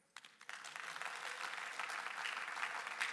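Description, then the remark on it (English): A crowd applauds in the morning to show agreement with a speaker, many hands clapping in a dense, steady patter that builds quickly after a brief quiet start and holds at a fairly loud, even level. “And I just wonder, by a show of applause this morning, how many of you are with me?”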